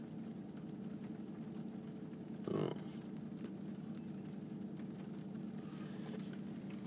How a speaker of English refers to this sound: Oh, dang it. The car just started. It's okay.